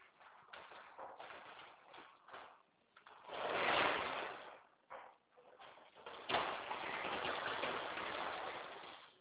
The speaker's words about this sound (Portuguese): abre essa porta aí. Eu não consegui. Tem que ser a pessoa forte.